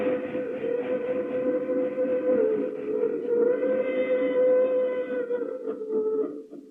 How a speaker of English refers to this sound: Hear that? It's a freight train pulling out of the departure yard of a terminal headed for points beyond. And hear that? That's another freight train on its way. And still another will be starting somewhere in the United States in the next 5 seconds.